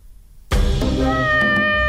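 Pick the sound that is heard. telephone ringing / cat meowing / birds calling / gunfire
cat meowing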